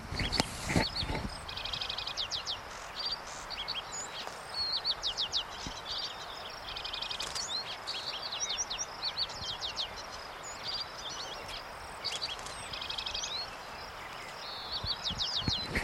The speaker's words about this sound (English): That, of course, is a lark sparrow in the background, in the near background.